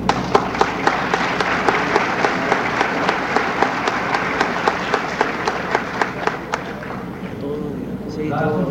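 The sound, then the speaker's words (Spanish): A large assembly audience applauds steadily in honor of the President of the Republic, José López Portillo, with sharp, evenly spaced claps standing out over the broad wash of clapping; it tapers off near the end as voices begin to talk. “no podríamos dejar de citar en estos momentos que indirectamente también se rinde un homenaje a la obra Quetzalcóatl de nuestro señor presidente de la República, José López Portillo, para quien pido un aplauso.”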